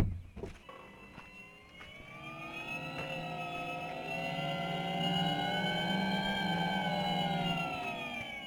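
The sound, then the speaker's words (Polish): A car's start-up sound: a layered, humming tone swells and rises steadily like a jet taking off, building in loudness and sustained for several seconds, without any talking. “Samolot startuje. Tak, albo jakiś statek kosmiczny, a zresztą też wygląda tak kosmicznie z przodu.”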